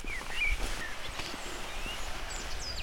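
Scattered, faint chirps and short whistles of a blackbird, a robin and a tit singing after rain, over a soft, steady outdoor background with a few light rustles, during a walk near the village of Trébris. No one speaks.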